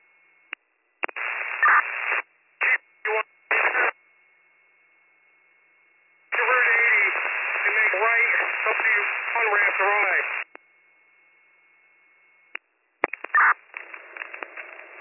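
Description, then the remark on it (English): Bursts of harsh, band-limited radio static crackle through a two-way radio during fire command transmissions, starting and cutting off abruptly between transmissions, with garbled voice fragments breaking through and a long hissing stretch in the middle. “Staticky on again.”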